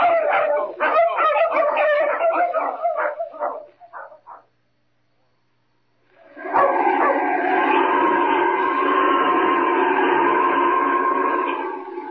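Dogs bark and yip in a quick, excited volley for a few seconds. After a brief silence, a long, steady howl-like cry rises and holds loudly to the end.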